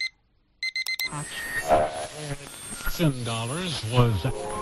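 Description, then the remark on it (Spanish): An alarm clock gives a few quick, bright beeps in a rapid burst, then stops abruptly as loud music with a singing voice starts up and fills the rest. “Suena el despertador y Enrique empieza el día.”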